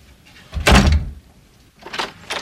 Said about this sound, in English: Diane opens the door.